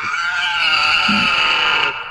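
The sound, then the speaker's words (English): A person makes a loud, nasal pig-like snorting noise with their voice, held steadily for about two seconds before cutting off, with no talking. “Damn, what was that? A pig?”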